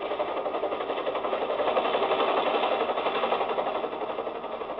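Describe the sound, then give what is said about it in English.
A helicopter coming into San Borja at night: its rapid, steady rotor chop and engine whine fill the scene, swelling slightly early on and then holding at a constant level, with no voices. “Anybody who comes into San Borja in a helicopter at night is a pretty good bet to be important.”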